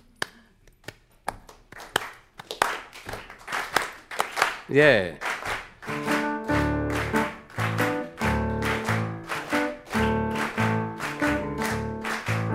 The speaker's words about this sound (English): Thank you all. If you want, you can give me a little background clapping along, you know?